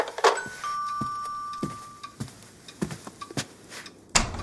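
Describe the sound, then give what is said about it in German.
A doorbell at the door chimes once with two tones, a higher note dropping to a lower one that rings out for over a second, followed by scattered soft clunks and clicks of movement. “es hat an der Tür geklingelt.”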